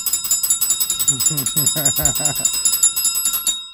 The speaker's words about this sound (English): I got it's a new thing, guys. I'm doing bells.